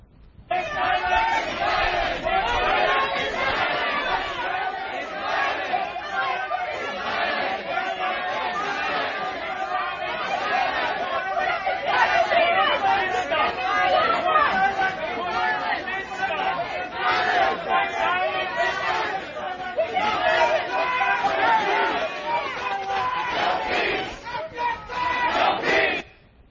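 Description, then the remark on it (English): A crowd of protesters shouts and chants together inside a restaurant, a loud, unbroken roar of many voices, dense and steady for the full length with rhythmic surges of yelling. “And of course, all the other customers immediately put their hand up in the air just to make the crowd go away and make the thugs leave them alone.”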